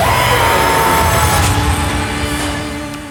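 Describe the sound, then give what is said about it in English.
An intense scream of pain from Paul as his hand is held in the box during the gom jabbar test, loud and sustained for about three seconds, rough and strained throughout, easing only slightly toward the end. “We already saw the great shots of the Gamjabar last week, but Paul's scream is just like super intense.”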